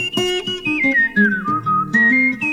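A clear whistled melody rises and glides between held notes, carried over a lively instrumental accompaniment with a steady, bouncing rhythm.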